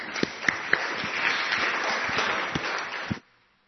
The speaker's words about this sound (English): I don't know whether it's nerves or excitement about today, but we'll give you a round of applause now and hopefully we'll enjoy our talk.